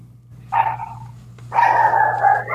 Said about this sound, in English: And the dog barks. He agrees with you.